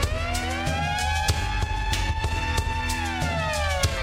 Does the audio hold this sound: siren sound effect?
yes